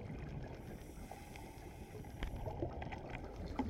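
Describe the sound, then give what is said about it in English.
Water sloshes and splashes against a steady churning background, with a few small sharp splashes as a diver breaks the surface at the stern of a boat after ascending from a wreck dive, just as the current begins to pick up. “Just as the current begins to pick up, we break the surface and arrive safely back at the stern of the boat.”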